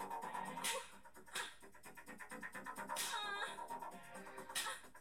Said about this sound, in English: Pain whimpering.